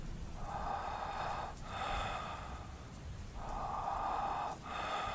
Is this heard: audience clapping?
no